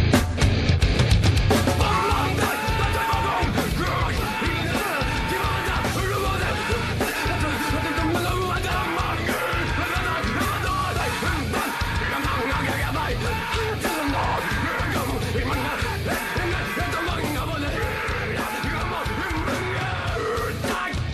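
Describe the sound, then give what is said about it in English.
A man yells and screams steadily in the background amid loud, dense crowd noise, the shouting sustained and raw throughout without clear words. “And then the guy in the background's like screaming and he's talking about it.”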